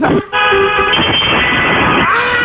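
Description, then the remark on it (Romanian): A car horn honks in one long, loud, steady blast of nearly two seconds, deep in tone, then cuts off abruptly. “Fii atent, claxon.”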